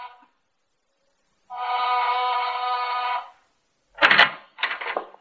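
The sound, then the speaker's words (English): A doorbell in a plush corridor on a 9th floor gives one steady, buzzing ring lasting nearly two seconds, then silence, followed by two brief clattering bursts. No one speaks. “I take the self-serve elevator to the 9th floor, press the doorbell in the plushy corridor...”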